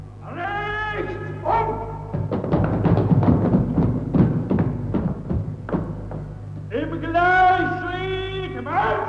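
A metal rail hanging near the gates is struck over and over in a fast, uneven run of loud clanging blows, framed before and after by drawn-out, wavering tonal cries.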